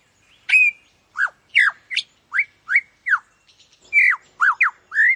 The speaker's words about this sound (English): That damn bird's ruining everything. We want to hear David Attenborough.